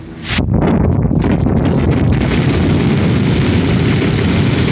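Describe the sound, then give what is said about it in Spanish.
A loud explosion bursts suddenly near the start, shaking the walls of an office and pulverizing everything, then gives way to a heavy, continuous roaring rumble that stays loud and steady, with no voices. “La explosión sacude los muros de la oficina pulverizándolo todo.”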